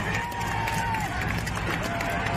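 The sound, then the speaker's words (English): A crowd cheers as a man stands up, a dense, steady roar of many voices that stays loud throughout, with a thin whistle-like tone drifting above the noise. “And so then all of a sudden he stands up, the crowd starts cheering, as you can hear there.”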